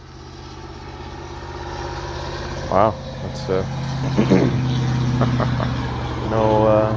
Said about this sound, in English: And there's a loud car going by. Yeah. Hold on.